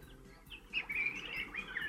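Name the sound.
birds chirping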